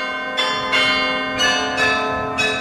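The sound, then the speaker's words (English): Several carillon bells of the miraculous metal shrine in Germantown struck in quick succession for a pre-recorded concert, about five bright metallic strikes with long ringing overtones that sustain and overlap, forming a melodic carillon passage with no voices. “… pre-recorded this concert with the bells of the miraculous metal shrine in Germantown”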